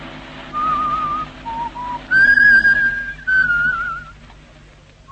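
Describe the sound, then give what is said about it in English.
An ambulance siren wails in a high, wavering tone that steps up in pitch and grows louder partway through, with no one talking over it. “That sounds like the ambulance coming now.”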